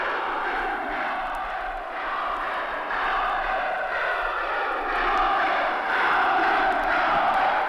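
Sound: crowd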